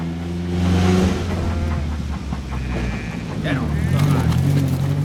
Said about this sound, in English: He puts his case into the tiny boot of the car. They pull away from the station.